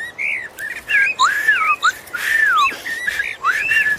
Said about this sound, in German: Das ist eine Amsel, eine sehr verbreitete Vogelart.